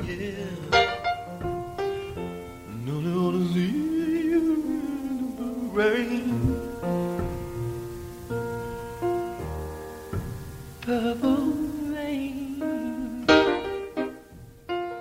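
A sparse, stripped-down demo recording of a song: a lone voice sings long, sliding melodic lines over a few sustained chords, with a bare, unpolished arrangement at moderate loudness.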